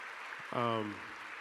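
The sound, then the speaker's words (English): Steady, hissing crowd applause for the church's pastors fills the whole clip. Partway through, a sustained vocal cheer rises briefly over the clapping, then fades back into the applause. “give you a round of applause for our Pastor”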